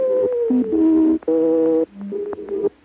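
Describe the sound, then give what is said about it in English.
A wolf in a forest howls in a few long, drawn-out tonal cries, rising and falling in pitch with brief breaks between them. The howl is loud, with no talking over it. “The wolf screams in the forest.”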